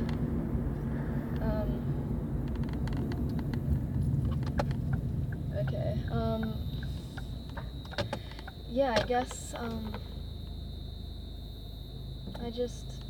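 car being parked

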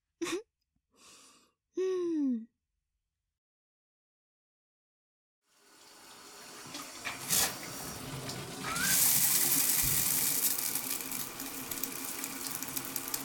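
shower water running

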